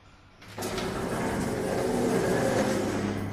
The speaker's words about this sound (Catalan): Doncs vinga, l'ascensor. Vinga, aquí s'apropa, aquí el tenim.